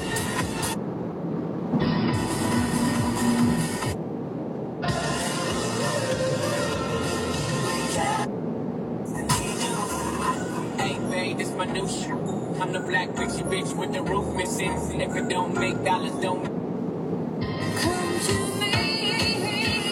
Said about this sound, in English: this track just has natural air horns in it. It just doesn't come stock with air horns.